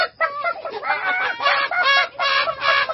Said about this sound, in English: Suddenly, the cock jumped up and flapped his wings. He screeched and cackled. The hens woke up and screeched and cackled.